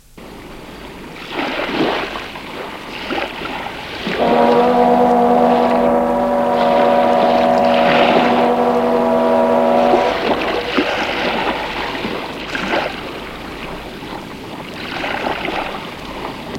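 A boat engine churns steadily with splashing water as the boat heads back, and a long, steady horn blast sounds for several seconds in the middle before the engine carries on alone.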